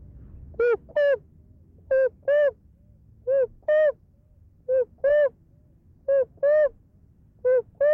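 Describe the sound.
A voice imitates a rhinoceros hornbill call, as the Penan people do: six pairs of loud, nasal hooting notes repeated at a steady, even rhythm, clear over a quiet background hum, with no talking.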